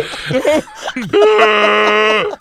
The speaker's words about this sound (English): He's out of breath.